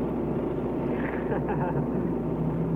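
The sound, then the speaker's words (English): Jackie Stewart's Lola race car engine roars steadily as it sweeps through turn 9 at Laguna Seca in a controlled four-wheel drift, a dense, throaty drone with a faint whining pitch shift, continuous throughout. “And in contrast, watch Stewart's Lola in a beautifully controlled four-wheel drift through the same turn.”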